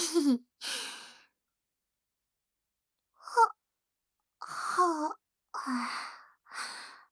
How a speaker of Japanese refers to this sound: やば、めっちゃあくび出ちゃった。